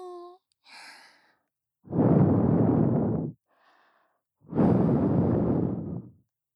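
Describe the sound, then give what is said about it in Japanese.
Two long, soft breaths are blown into the listener's ear, each a broad airy hush lasting over a second, separated by a pause, with faint murmured vocal sounds before and between them. “どう？耳の奥まで私の吐息届いてる？”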